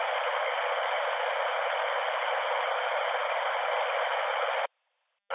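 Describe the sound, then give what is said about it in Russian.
Steady, loud radio static hisses without a break for several seconds from a radio station whose squelch is not closing, then cuts off abruptly into silence before a brief burst returns at the very end. “Да, шумодав не закрывается, получается.”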